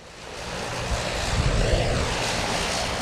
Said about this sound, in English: The two Bombardier CL-415s are the only Forest Service scoopers currently operational in the country. Officials say the planes are on hand due to potential wildfire conditions in the area.